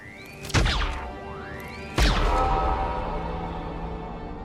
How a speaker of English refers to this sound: fires a phaser rifle into the well.